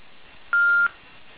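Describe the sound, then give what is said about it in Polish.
A single telephone keypad tone sounds once, a short steady electronic beep lasting about a third of a second, over a faint, muffled phone-line background with no speech. “Szanowni Państwo, aby zadać pytanie, prosimy o wybranie 01 z klawiatury telefonu.”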